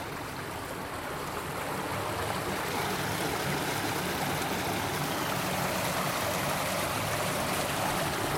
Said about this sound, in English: So we've got like a small channel. And next this water's just running away. Diverting the lock under a little tunnel. Like a brick-built tunnel.